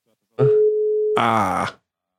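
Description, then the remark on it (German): A telephone ringing on a second call attempt to reach Marco Baldi: a single steady, clear tone held for under a second, then a shorter, harsher buzzing burst that cuts off abruptly. “Deswegen klingel ich noch einmal durch.”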